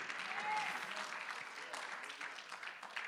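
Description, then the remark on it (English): A church audience claps during a sermon in a steady, fairly soft patter of many hands, a bit uneven and scattered, continuing throughout with no clear voices on top. “Everybody should have clapped to that.”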